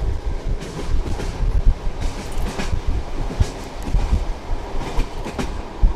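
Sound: train rolling on rails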